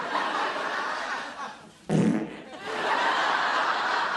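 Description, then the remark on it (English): A chair lets out a single short, loud farting noise partway through, set against a steady hiss of background noise with what may be faint laughter. “Dad's farting chair.”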